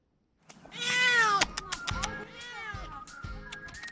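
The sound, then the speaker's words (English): A cat stuck in a tree in Seattle and unable to get down meows loudly and insistently in a long, wavering cry, then keeps up a string of shorter plaintive mews, with faint scratching of claws and thumps underneath. “A cat stuck in a tree and unable to get down. Lots of meowing and a fair amount of clawing.”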